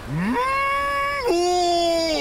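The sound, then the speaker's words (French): A man's voice gives a long, drawn-out wailing call in imitation of a whale, on a boat in Florida while watching whales: it rises, holds steady, dips sharply partway through, then sustains again. It sounds loud. “Arrête ça, là. Tu peux pas coller une baleine.”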